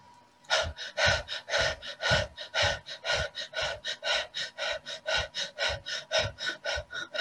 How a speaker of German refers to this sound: Dann können wir nochmal 3-mal atmen. Und dann atmen wir nochmal zu 60% ein und kommen nochmal in die Feueratmung.